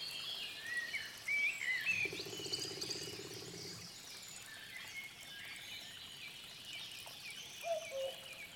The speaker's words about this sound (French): On entend distinctement un ruisseau qui doit couler à proximité et dont on imagine l'eau pure et cristalline. Des multitudes d'oiseaux nous entourent. On peut même reconnaître un coucou ou encore un pivert qui tambourine en quête de nourriture.